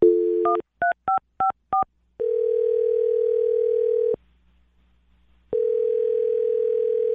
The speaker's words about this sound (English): I'm going to dial James' phone number right now and see if we can get him on the phone and find out if we can get you another date, okay?